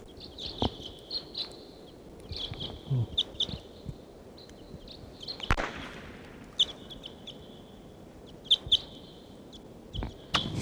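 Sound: bird calls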